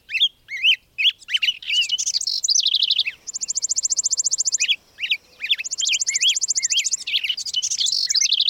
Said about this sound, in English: Across the whole of April, week after week, new songbird migrants work north from the tropics, adding bit by bit to spring's ever-growing soundtrack.